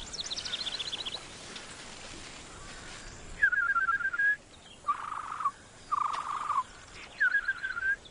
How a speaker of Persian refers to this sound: حالا از گوشاتون به اندازه چشماتون استفاده کنید. در این حالت احتمال داره که صدای یه پرنده رو قبل از دیدنش بشنوید.